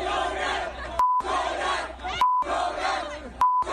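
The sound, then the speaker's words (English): A loud, rowdy crowd in the street outside a canceled concert yells and chants in unison, cut off three times by steady bleep tones that censor their words at regular intervals. “So that's basically that over and over and over again. A ton of beeps.”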